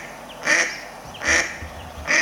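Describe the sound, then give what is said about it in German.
Three evenly spaced, nasal quacks from a mallard-type duck, each short and fairly loud, with brief pauses between them and no voices present. “Aber die quaken genau wie die Stockenten.”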